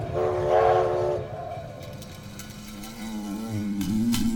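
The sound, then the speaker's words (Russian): A train carriage rumbles steadily along the rails, a low continuous roar with a sustained, horn-like tone sounding over it, with no one speaking. “Луга, Петербург, вагон.”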